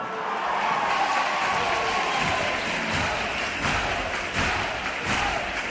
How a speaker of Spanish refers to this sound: Aplausos para recibir, como decíamos, a esta comparsa que por ahora mantiene esa media luz y que nos impide, bueno, pues intuir nada de la idea, el tipo o la escenografía que puedan representar en este, en esta jornada de miércoles.